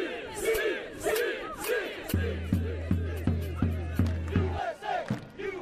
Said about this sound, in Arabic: هذه إحدى الشعارات التي تصدح بها حناجر المشجعين الأمريكيين من أصول مغربية، دعما لمنتخب وطنهم الأم أسود الأطلس مع كل نزال يخوضه.